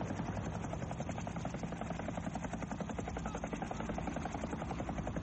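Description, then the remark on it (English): A helicopter in a movie scene roars steadily, its rotor blades chopping in a fast, even rhythm that fills the whole scene at high volume. No voices are heard. “They're getting to the chopper for sure.”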